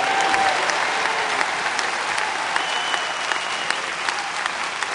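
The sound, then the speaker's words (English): A church audience applauds steadily as praise to the Lord, a dense wash of clapping that holds at an even level throughout, with a few faint voices and shouts rising through the noise. “I think you ought to give the Lord a praise for that.”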